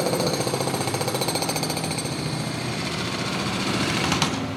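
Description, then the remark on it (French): A jackhammer pounds away in rapid, steady bursts, loud, its harsh rattling filling the whole clip without any voices. “Ah ben ça, les sons du marteau-piqueur, pour le côté indus.”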